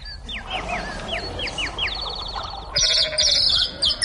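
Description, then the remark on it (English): A quick run of short, high, downward-sliding chirps gives way to a louder, wavering bleat from sheep wearing tin helmets that trembles on for about a second, with no voices present. “Now, look here, you sheep.”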